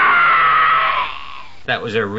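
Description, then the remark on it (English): A person lets out a loud, drawn-out scream that fades away, then breaks into a shorter wavering cry, reenacting the sound of someone getting a foot caught underneath a chair. “Trevor got his foot caught underneath the chair.”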